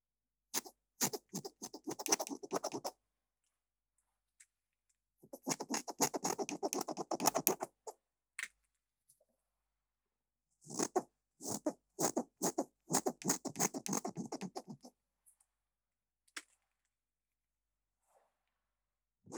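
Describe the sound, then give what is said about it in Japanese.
Crisp scissors snipping through hair in three quick bursts of rapid clicking cuts, separated by short pauses, with a few isolated snips trailing off at the end. “ハサミ入れるよ”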